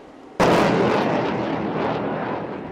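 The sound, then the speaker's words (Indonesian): A single heavy blast of naval gunfire, from 20 warships including frigates and destroyers firing shells off Taiwan's northeast coast during the annual Han Kuang exercise, erupts suddenly after a brief quiet moment, then rolls into a long, loud, rumbling roar that slowly fades. No one speaks. “20 kapal perang termasuk fregat dan kapal perusak menembakkan peluru untuk mencegat dan menumpas serangan di lepas pantai timur laut Taiwan”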